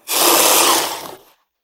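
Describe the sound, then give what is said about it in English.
A blender blending chocolate cake whirs for just over a second, a loud, steady, coarse grinding roar that starts abruptly, wavers slightly near the end and then cuts off. No one speaks. “Chocolate cake goes into a blender.”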